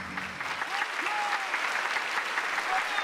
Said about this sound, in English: The curtain sweeps up to rapturous applause and Pauline curtsies. As Sylvia, the lodgers and her sisters all clap and cheer, Pauline grins and curtsies again, enjoying the applause.